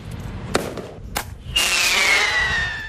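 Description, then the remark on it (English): Bird-scaring pyrotechnic cartridges fired from firearms out amongst birds, travelling about 40 or 50 metres, to drive the birds away from the movement area: two sharp cracking bangs, then a hissing burst with a high whistling tone that slowly falls in pitch and fades, over a low rumbling background. “firearms that we can fire pyrotechnics that make various noises, and we can get them out amongst the birds”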